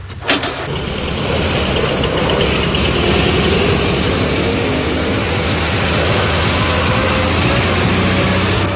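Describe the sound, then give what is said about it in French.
An old collector car's engine turns over and catches, then runs at a steady, loud, rumbling idle, with no voices over it. “Voiture de collection, bien sûr, que seul Cabu pouvait conduire”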